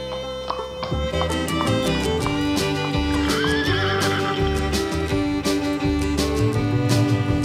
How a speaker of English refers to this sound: Little horse, noisy as can be. I hear you, can you hear me? Yes, I hear you galloping, I never hear you stop. Just like me, it's fun to see you clop, clop, clop.